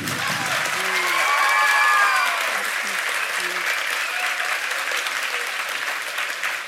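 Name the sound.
audience applause and cheering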